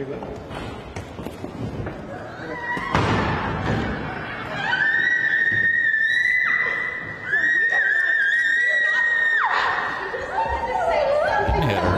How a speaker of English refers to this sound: So they pulled her out of there, and she's screaming like she's getting beaten like Rodney King. And all they did was put their hands on her and say, you cannot go in there.